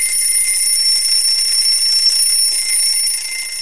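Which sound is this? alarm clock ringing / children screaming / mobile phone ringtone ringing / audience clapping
alarm clock ringing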